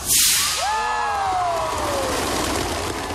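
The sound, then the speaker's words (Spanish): Bottle rockets launch in Rocket City, Alabama, part of 5,000 launched to try to set a Guinness world record on the 50th anniversary of the Moon rocket launch, with a sharp hissing whoosh, then several thin whistling tones slide downward in pitch and trail off into a steady rushing background. No voices. “Estamos lanzando 5.000 cohetes de botellas para romper un récord mundial de Guinness, explicó Randall Robinson.”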